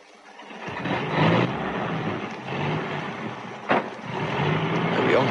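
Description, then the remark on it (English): A heavy 10-ton truck engine rumbles and revs steadily as Fred Flint and Foxy Shrump drive it away, with a sharp hiss or clank partway through and a continuous low-mid drone throughout. “That'll be Fred Flint and Foxy Shrump taking one of them 10-ton trucks.”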